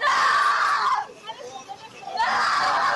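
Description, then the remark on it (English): A 14-year-old girl screams loudly in two long, strained bursts as she fights off several police officers pushing her into a waiting patrol car, separated by a brief quieter stretch of muffled commotion and faint voices. “screams and fights off several police officers as they push her into a waiting patrol car.”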